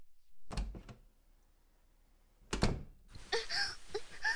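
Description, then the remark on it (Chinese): A door shuts with a solid thud, then a second heavier knock follows a couple of seconds later, after which a drawn-out vocal sound rises. “刚关门你就摁着我”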